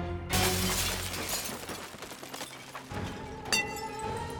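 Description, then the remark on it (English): The glass covering a room's lights shatters with a sudden loud crash, followed by a sustained shower of tinkling, clattering shards raining down on a stage, and a second sharp impact near the end. “The lights in the room became brighter and brighter until the glass covering them shattered, raining down on the stage and the audience of three.”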